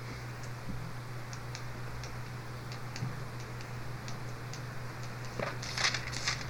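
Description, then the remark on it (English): An alarm clock ticks steadily at a brisk, even pace, fairly quiet over a low steady hum, with a brighter, louder burst of ticking near the end. “A resonant alarm clock.”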